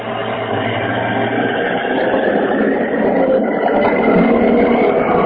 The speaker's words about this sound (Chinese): 我告诉你， 嗯，楼下过车了，嗯。